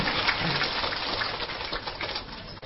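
A crowd claps steadily for a few seconds, a dense, even wash of many hands with no voices on top, holding at a fairly loud level throughout, applauding in encouragement.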